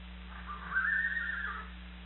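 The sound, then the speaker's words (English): A fresh, spirited horse whinnies once, a thin, high neigh lasting about a second, soft over a steady low hum. No one speaks. “Get that horse back, he's fresh.”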